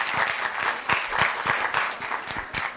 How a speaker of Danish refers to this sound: Skal vi også have et klap til dem, som ikke vil bruge det under nogen omstændigheder?